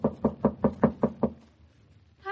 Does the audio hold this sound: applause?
no